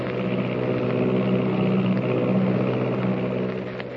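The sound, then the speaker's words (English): A steady, loud drone of an Army plane's engine roaring in flight at 300 miles an hour, with a constant low throbbing hum and faint harmonic whine sustained throughout, no voices present. “Is there someone lurking in the tail of the Army plane as it roars through the sky at 300 miles an hour?”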